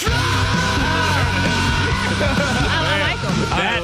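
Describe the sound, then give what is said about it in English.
A cockatoo belts out a learned song in loud, harsh, shouting-like squawks, its pitch swooping up and down continuously for several seconds over a steady droning background. “That's a scary cockatoo right there.”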